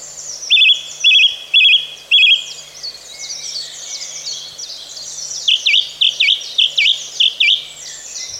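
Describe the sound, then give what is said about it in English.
A song thrush sings, repeating a clear phrase four times in quick succession, then switching to a run of rapid, repeated whistled notes, with faint background birdsong throughout. “Widespread throughout Europe and as far east as Siberia, northern populations are migratory, heading to Africa, whereas our song thrushes tend to be residents.”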